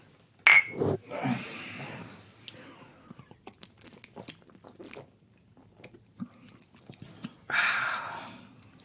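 A sharp glassy clink of beer glasses in a toast near the start, followed by soft slurping, swallowing and small mouth sounds as Oberdorfer Helles beer is drunk, with another louder gulp or breath toward the end; no talking.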